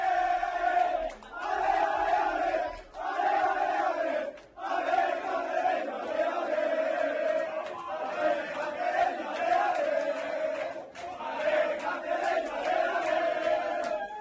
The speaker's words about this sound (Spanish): Mira, esta es la fiesta ayer después de eliminar al Girona de Michel, al que ganaron 2-1 el vestuario del Cacereño.